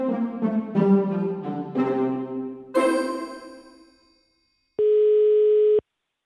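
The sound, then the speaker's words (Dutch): A quick run of tonal notes ends in a ringing chime that fades out, then after a short silence a single steady, mid-pitched telephone ringing tone sounds for about a second. “Dus ik dacht, ik bel ze even op.”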